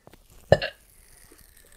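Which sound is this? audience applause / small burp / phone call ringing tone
small burp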